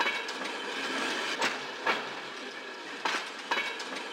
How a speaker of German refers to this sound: Ankunft am Hauptbahnhof. Im Hintergrund ruht ein Zug.